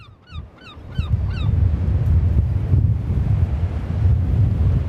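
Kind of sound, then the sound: nature, strong wind blowing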